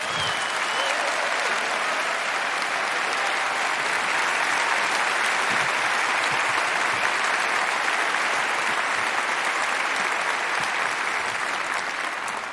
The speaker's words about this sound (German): Dafür erstmal einen riesen Applaus, bitte.